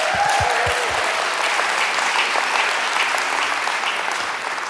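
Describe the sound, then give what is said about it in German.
An audience claps steadily for the speaker's wife, a dense wash of many hands sustained at an even, fairly loud level throughout, with a few low thumps near the start and no talking. “Applaus für meine Frau.”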